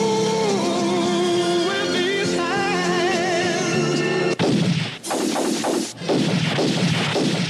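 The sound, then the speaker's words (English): Sustained orchestral music with wavering brass plays for about four seconds, then cuts off as a sudden loud burst of gunfire erupts into a dense, chaotic barrage of shots, as a man shoots everybody in the room, continuing to the end. “Then, with his bare hands, he shoots everybody in the room.”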